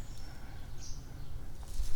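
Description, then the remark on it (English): Faint bird chirps come through a quiet outdoor background, a few thin high-pitched calls scattered across the moment with no one talking. “What does that sound? Oh, it's just birds over there.”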